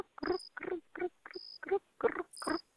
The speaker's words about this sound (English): Another cricket hearing on the other side of the canal. It's the same kind.